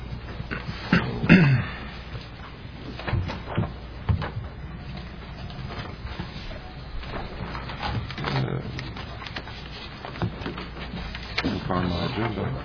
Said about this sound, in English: Looking for my agenda, quite honestly, with all these papers here.